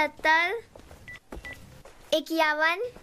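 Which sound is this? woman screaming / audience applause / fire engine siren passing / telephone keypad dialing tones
telephone keypad dialing tones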